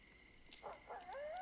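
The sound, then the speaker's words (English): A faint coyote howls: a couple of short yipping cries followed by a rising, wavering high-pitched howl against a quiet outdoor background. “What was that? It's just a coyote.”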